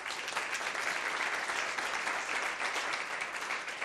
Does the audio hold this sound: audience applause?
yes